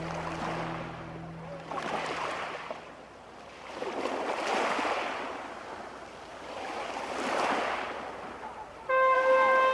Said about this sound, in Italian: Questo scatto c'è un pescatore che sta mettendo in acqua la sua piccola barca.